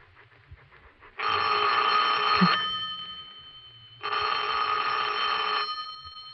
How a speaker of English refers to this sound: You better answer the phone.